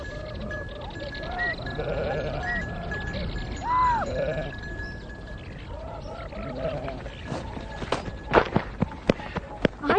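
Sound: sheep bleating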